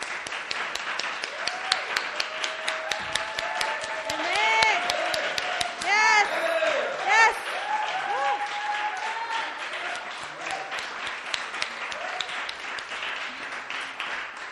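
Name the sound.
audience applause clap offering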